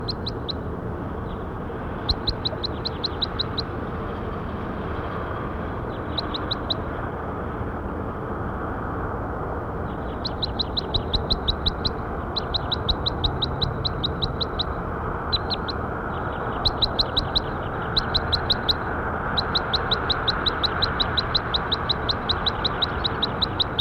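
A bird, labelled bird 5-7, gives bursts of rapid, high-pitched repeated chirps in short rhythmic trills, recurring many times over a steady low rumbling background hum.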